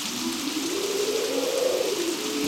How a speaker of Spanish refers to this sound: Cuando este jinete sale, corre un viento muy, pero muy fuerte en todo el valle, y luego llueve.